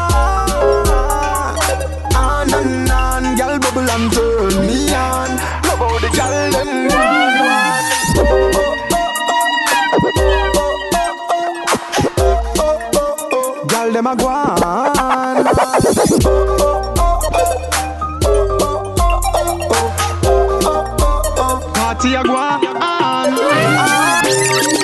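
A dancehall riddim plays at full, steady volume, with a thumping bass line, looping synth melodies and bright sliding tones over a bouncing beat. No one speaks over it.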